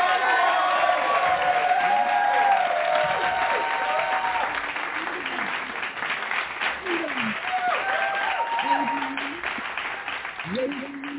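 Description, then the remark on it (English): A church audience claps steadily in sustained hand-clap praise, welcoming their pastor to preach at an evening service, dense and fairly loud, with voices calling out and cheering over the clapping throughout. “So we are going to welcome her with a hand clap praise.”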